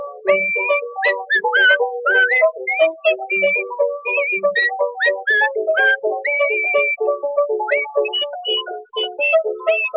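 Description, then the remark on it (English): Someone whistles a lively, bouncy tune, a quick run of short notes that keeps going for about ten seconds with no talking. “She's a regular hot potato, a jolly sporting fool, and when I go to see my babe, she whistles me this tune.”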